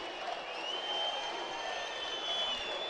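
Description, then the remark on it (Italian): A big stadium crowd of home fans whistles in protest at a penalty awarded to Parma in a football match, shrill sustained whistles cutting through a dense, steady roar of fans that fills the whole stretch without letting up. “Fischiano i tifosi di casa, ma secondo me non c'è assolutamente nulla da protestare,”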